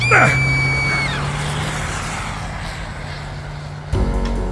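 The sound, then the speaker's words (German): A car engine drones steadily as the vehicle rounds a corner, with a brief high squeal at the start and a sudden change in the engine note near the end. “Ein Wagen fuhr um die Ecke, als der Kerl mich schubste.”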